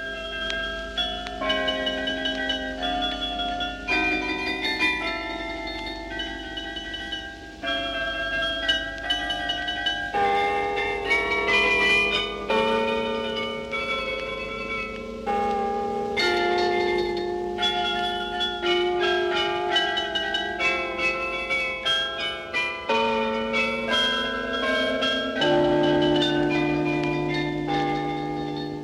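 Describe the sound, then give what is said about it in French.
A carillon plays a melody from a belfry, many bright bell tones struck in steady succession with long ringing overtones blending together, fairly loud and continuous with no voices. “Car on ne peut détacher le folklore flamand du carillon, pas plus que la vie elle-même, dont le carillon marque toutes les heures.”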